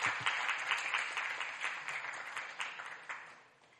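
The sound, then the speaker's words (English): A crowd applauds the worship team at Last Adam Tabernacle with dense, steady hand clapping that holds strong, then gradually fades toward the end. No voices stand out over the clapping. “Yeah, give another big hand clap to the worship team, please.”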